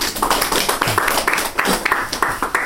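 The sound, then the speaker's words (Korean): An audience applauds with dense, steady clapping that holds at a moderate level for the whole stretch, many hands overlapping into a continuous patter with no voices on top. “다시 한번 박수로요.”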